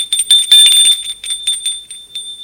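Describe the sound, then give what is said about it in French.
A doorbell rings with a bright, rapid metallic trill, sounding loud for a couple of seconds before fading slightly toward the end, with no voices. “Il a sonné à la porte.”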